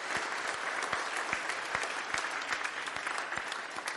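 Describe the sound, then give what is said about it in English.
A crowd applauds Girl Scouts showing their earned badges, many hands clapping in a dense, even patter that holds at a consistent loudness throughout, with no voices standing out. “So let's give them a round of applause and appreciation.”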